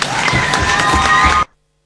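Loud, dense audience applause, a steady wash of many hands clapping for about a second and a half before cutting off abruptly into silence. No voices are heard.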